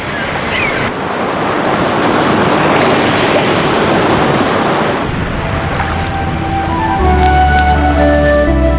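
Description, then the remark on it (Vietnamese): Sea waves wash steadily against a rocky cliff shore in a dense, continuous rush for about five seconds, then soften as sustained musical tones and a low hum take over. “tựa lưng vào vách đá, nghe tiếng sóng vỗ rì rào mà ngủ thiếp đi.”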